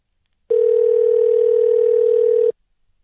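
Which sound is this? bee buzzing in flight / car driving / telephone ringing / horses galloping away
telephone ringing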